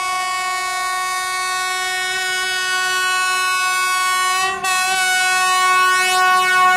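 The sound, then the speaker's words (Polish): An express train from Kraków to Warszawa departing from track 4 at platform 2 of Kraków Główny station, Poland: its horn blares in one long, loud, steady blast with a rich stack of tones, breaking off for an instant before resuming just as strongly. No one speaks. “Pociąg ekspresowy relacji Kraków-Warszawa odjeżdża z toru 4 przy peronie 2. Proszę wsiadać, odjeżdżamy.”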